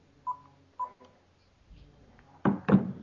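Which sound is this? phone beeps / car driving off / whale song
phone beeps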